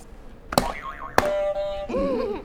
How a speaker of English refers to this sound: You want to hit another buzzer? I hit all of them. You can hit another one or two at a time if you want.